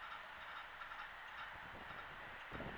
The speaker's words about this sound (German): noch ein fahrender Zug. Eine bebende Brücke.